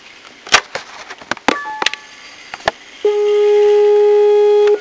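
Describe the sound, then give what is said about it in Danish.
A few sharp clicks and short electronic bleeps, then a long, loud, steady beep tone that holds for nearly two seconds: the telephone voicemail tone after an answering machine greeting, signalling the caller to leave a message. “Abonnenten kan desværre ikke besvare deres opkald nu, men de er velkommen til at lægge en besked efter tonen.”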